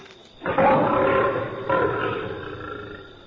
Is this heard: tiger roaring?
yes